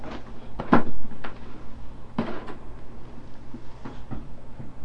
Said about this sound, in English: Can you open this door here? Can you open this door? The door right here. Big closet door. Can you open it?